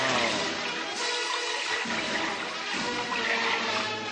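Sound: water splashing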